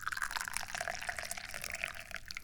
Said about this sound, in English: Oops, it's gonna drip. Oh, it's dripping! Don't let the tea drip. Just pour it normally into the teacup.